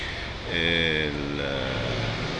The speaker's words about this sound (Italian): Adesso naturalmente i rumori aumentano perché il traffico comunque a Roma è sempre quello che è